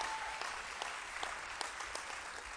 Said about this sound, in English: Give the Lord another clap offering of praise.